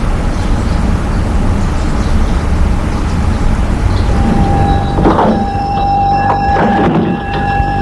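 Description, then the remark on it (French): A bus idles at a stop with a steady low engine rumble, then high brake squeals and a short pneumatic hiss near the end, with no one talking. “En face de l'arrêt du bus, il y a un petit café,”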